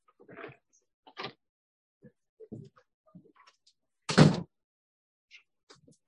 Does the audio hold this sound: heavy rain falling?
no